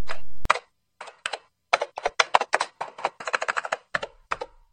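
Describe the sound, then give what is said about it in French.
Keys clack on a computer keyboard in quick, uneven bursts as a password is typed in to open a door, a couple of dozen sharp taps with short pauses between them, following a brief steady tone at the start. The password is rejected as wrong. No one speaks. “Je vais utiliser le mot de passe.”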